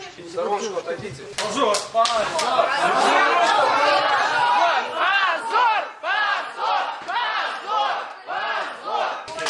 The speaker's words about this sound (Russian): Позор, это кричат, когда судья покидает зал и уходит уже после... А судья не просто покидает зал, она просто вылетает из зала, да, с такой, да, да, скоростью, и что... под конвоем вот этих вот бравых ребят.